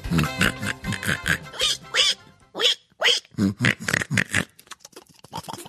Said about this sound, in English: And this little pig cried wee, wee, wee all the way home.